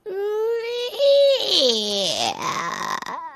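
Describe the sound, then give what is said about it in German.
A voice mimics a creaking door as it is opened to enter a dimly lit shop for juggling and music supplies: a strained, drawn-out tone that wavers and slides downward in pitch, moaning on for about three seconds before a short final squeak. “Es gibt ein Glöckchen, es wurde übertont vom herzzerreißenden Knarzen.”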